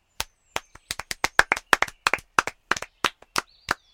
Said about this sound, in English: I feel like I should applaud. No kidding. That's better than any show the theater department puts on. Bravo! Hear, hear.